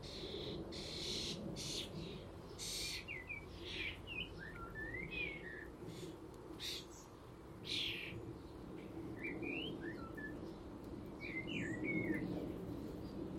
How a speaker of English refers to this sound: And I've got one cock blackbird sitting on my Acer tree just to my left, one fledgling starling, and one singing blackbird cock on the top of the shed.